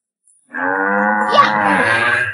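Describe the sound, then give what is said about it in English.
A cow lets out one long, loud moo, a sustained, droning low call lasting about two seconds with no other sounds around it. “Moo Moo Meadows is home to some hungry cows.”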